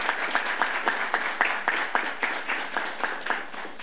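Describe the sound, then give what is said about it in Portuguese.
An audience applauds steadily for a man called to the front as a 'warrior of culture', a dense wash of many hands clapping with some louder claps standing out in a loose rhythm. No voices are heard. “Muito obrigado e uma grande salva de palmas.”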